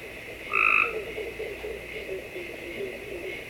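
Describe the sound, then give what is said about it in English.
A Cope's gray tree frog gives one short, loud, buzzy trill lasting under half a second, followed by a low steady background hum. “Cope's gray.”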